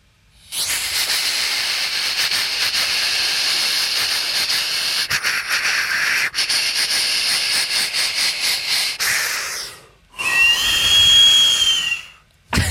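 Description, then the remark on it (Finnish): A person imitates a steam train with their mouth: a long, loud hissing rush with a faint chugging pulse, then a brief pause and a high, wavering whistle toot. “Juna menee näin.”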